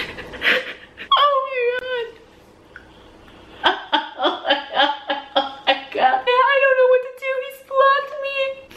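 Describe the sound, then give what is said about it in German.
A woman cries and whimpers on a kitchen floor in a video, with high, wavering wails, a burst of rapid, hiccuping sobs in the middle, then more drawn-out, trembling moans toward the end. “So, sie hat eben angefangen mit Videos auf dem Küchenboden, um zu weinen.”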